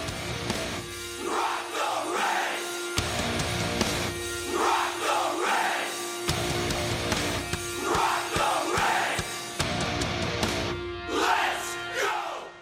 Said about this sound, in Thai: นั่นก็เป็นเพลงเชียร์ของ Capitals นั่นเอง